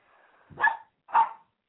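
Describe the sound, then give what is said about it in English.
A dog brought along to a workplace lets out two short, sharp barks about half a second apart, preceded by a faint whiny whimper, with silence between and after. “I brought the dog to work tonight because we're going out to the suburbs here in a minute.”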